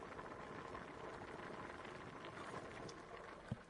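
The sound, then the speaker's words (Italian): Steady, dense bubbling of sauce boiling in a pot, a soft continuous crackle and gurgle, with one brief louder pop near the end and no voices. “C'è tanti altri sugo. Puoi aprire? Sì. Sta bollendo.”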